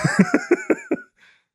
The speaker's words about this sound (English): I got dizzy when I coughed.